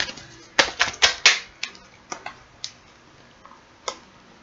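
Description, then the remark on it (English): An original Rider-Waite Tarot deck being shuffled: a quick burst of crisp, papery slaps and riffles, then a few scattered soft clicks as the cards settle. No voices. “Hold the question in your mind as I shuffle.”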